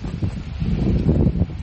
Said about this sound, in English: It's kind of windy today and rainy.